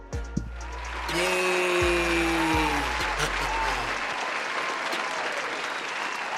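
A crowd bursts into sustained applause welcoming a guest back, dense clapping that swells after a brief low rumble and continues steadily to the end, with some tonal noise layered over it.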